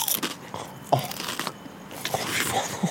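Crisp, irregular crunches of someone chewing sour cream and onion potato chips, a run of brittle bites and grinding at moderate loudness with no talking.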